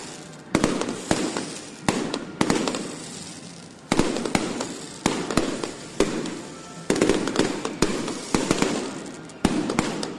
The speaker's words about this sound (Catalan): ja veiem aquests primers focs que ja esclaten al cel de Valls i també veiem la cua del basilisc i escoltem aquests ja focs que esclaten al cel de Valls.